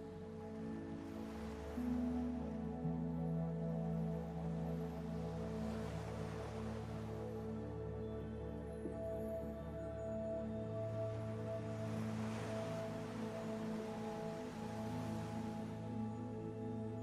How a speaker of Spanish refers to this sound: Deja que las olas del mar te relajen, que el ritmo de esta marea mece tu cuerpo. Siente cómo flota y entrégate a este vaivén.